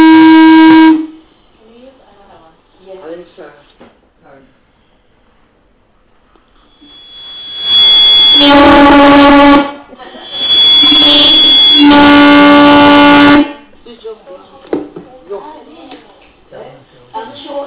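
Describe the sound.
A loud, harsh electronic alarm tone blares in three bursts, a brief one, then two longer sustained blasts, with people talking quietly in the gaps between them.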